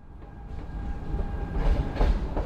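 A train carrying a group of Glasgow detectives to Lancaster rumbles steadily along the rails, with a deep low-end roar and rhythmic clickety-clack from the wheels, growing slightly louder toward the end. No voices are heard.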